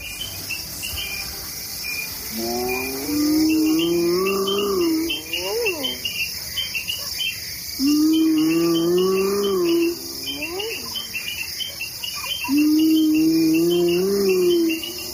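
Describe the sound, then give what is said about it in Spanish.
Steady, shrill insect trilling fills the night savanna of Masai Mara, in Maasai territory in Africa, two hours before dawn, while three long, low whooping hyena calls rise and swoop upward at regular intervals over the constant chorus. “Al fondo escuchamos la sabana.”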